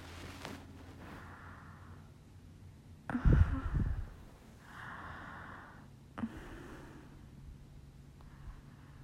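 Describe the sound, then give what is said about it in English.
Heavy nasal breathing with a few loud snorting inhales and exhales, irregularly spaced, over a quiet low background hum; no talking. “I'm just breathing. I'm literally just breathing.”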